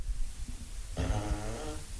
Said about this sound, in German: Möchtest du noch ein Furzgeräusch hören? Auf jeden Fall.